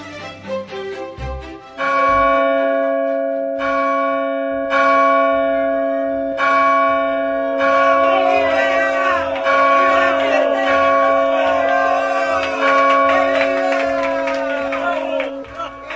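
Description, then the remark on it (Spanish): All the church bells of Paris peal loudly and continuously at dawn on 6 January, for the Day of Kings and the Feast of Fools, their ringing tones overlapping in a rich, sustained clangor with a faint murmur of crowd noise underneath. “El repique de todas las campanas despertó a los parisienses desde el amanecer del 6 de enero, y lo que ponía en conmoción a todo el pueblo de París era una doble solemnidad, la del Día de los Reyes y de la fiesta de los locos que se celebraban juntas”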